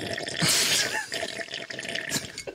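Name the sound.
water sloshing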